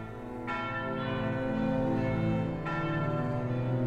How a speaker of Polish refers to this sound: Po chwili odezwały się dzwony kościołów, zwiastując, że kościół stoi, że nie zwyciężył go ogień wrażych bomb.